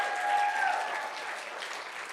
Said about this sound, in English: Can we give a hand clap for all the people that raised their hand this morning?